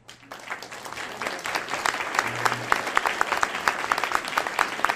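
An audience claps steadily for about five seconds, a dense patter of many hands that starts abruptly and holds at a fairly even, moderate loudness with crisp individual claps standing out.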